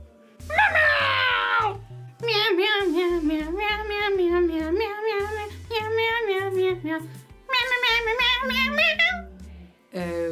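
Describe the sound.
A person imitates a cat, meowing over and over in a steady, continuous stream of drawn-out, sing-song meows, fairly loud, with a low rhythmic thumping underneath.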